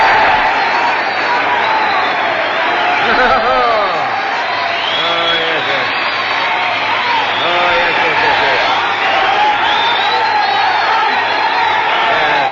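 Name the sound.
applause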